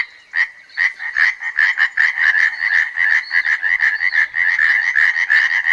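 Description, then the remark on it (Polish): A small tree frog's loud, rapid rattling call, like a loud rattle, a dense train of harsh pulses repeating without pause for several seconds, forceful with no voices. “Rzekotki, mimo że są to płazy niewielkie, mają taki potężny głos, trajkoczący lub grzechoczący, tak jakby ktoś używał głośnej grzechotki.”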